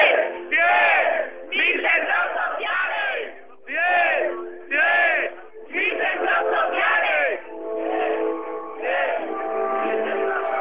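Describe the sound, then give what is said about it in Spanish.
A loud crowd at Patio Maravillas, heard live, shouts and chants continuously, voices rising and falling in bursts, with a steady musical tone running underneath the noise throughout. “Tenemos el sonido ambiente. Esto parece un partido de fútbol. La música, los gritos.”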